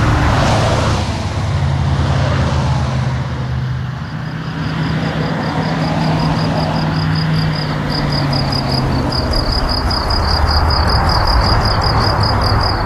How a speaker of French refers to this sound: Donc ça, c'est chez Fernand, côté Grillon. Et ça c'est chez Fernand, côté camion.